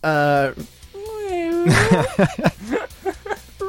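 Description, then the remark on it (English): A person voices a drawn-out imitation of a cat's meow, then a second rising-and-falling mew, before breaking into quick, animated talking. “Meow it.”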